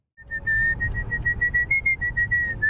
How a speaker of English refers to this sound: For many people, there's nothing like a good whistle to pass the time.